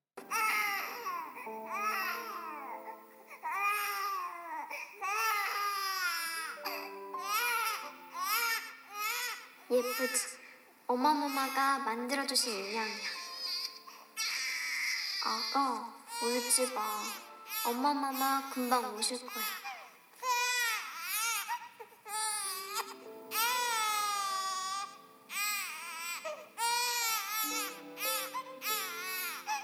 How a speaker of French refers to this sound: Tout d'abord, j'ai vérifié, comme je le fais toujours, on voit clairement que le son correspond à l'image. C'est bien le nourrisson que l'on voit à l'écran qui pleure et exprime son angoisse, sa détresse croissante.